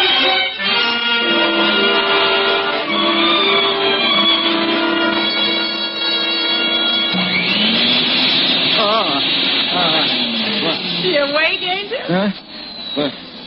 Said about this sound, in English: Just running the vacuum. All those butts you tumbled on the floor.